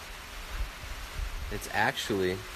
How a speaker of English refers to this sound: Getting a little bit of rain here today.